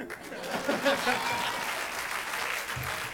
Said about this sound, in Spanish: Aplaudan.